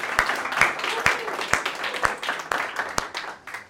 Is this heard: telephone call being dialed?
no